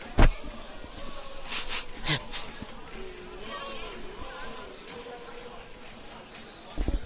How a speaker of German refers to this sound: Ich muss mal kurz die Nase putzen, Entschuldigung.